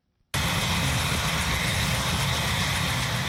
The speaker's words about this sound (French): Divers responsables gouvernementaux américains ont assisté ce mois-ci à un vol de démonstration de l'hélicoptère téléguidé K-Max.